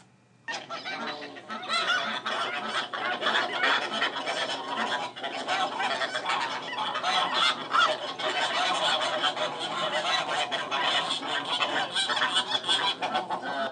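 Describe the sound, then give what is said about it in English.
A noisy chorus of geese honking continuously, many overlapping calls layered into a dense, raucous din that stays loud and steady throughout, with no talking. “I think if I could do that, I could kill geese too.”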